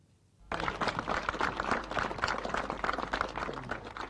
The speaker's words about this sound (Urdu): Rwanda کے دارالحکومت کے گالی میں مسٹر کاگامے کی تقریر سے پہلے ان کے حامیوں نے جمع ہو کر تالیاں بجائیں اور گانے گائے.